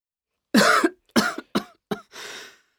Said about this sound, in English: Oh, not at all. I've got a bad cough and a sore throat. I can't speak.